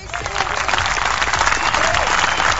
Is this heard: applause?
yes